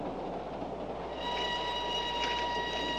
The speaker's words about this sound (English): You know I even had to pay to get on this train.